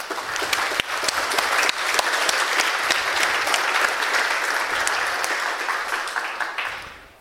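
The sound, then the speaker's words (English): A volunteer-run conference audience applauds the Hochschule Bonn-Rhein-Sieg and its Department of Computer Science, a dense wash of many hands clapping steadily for several seconds before tapering off at the end. “So big applause to the Hochschule Bonn-Rhein-Sieg, please.”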